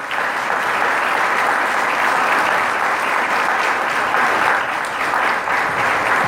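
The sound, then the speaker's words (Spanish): Steady, loud applause from an audience for a doctor at a health department (Subdirección de Salud) event, a dense wash of many hands clapping that holds at a constant level for several seconds without any voices. “Un fuerte aplauso para el doctor.”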